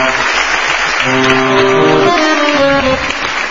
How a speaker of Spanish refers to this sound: Bueno, aquí están. Aquí están. Un aplauso para ellos.